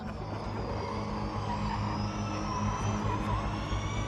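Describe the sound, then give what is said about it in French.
High, rising electric whines of electric race cars streak by during a large race outside Riyadh, Saudi Arabia, in December 2018, over a steady roar of motors and crowd, loud and continuous, with no voices. “Le clou des festivités est une grande course de voitures électriques qui symbolise la politique de réforme mise en œuvre par la famille royale.”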